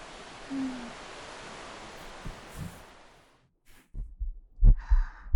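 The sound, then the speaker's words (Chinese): After a few seconds of soft, airy hiss, a quick heartbeat thumps low, its deep muffled beats arriving in rapid pairs and growing stronger toward the end. “你心跳得很快啊，是不是偷偷紧张？”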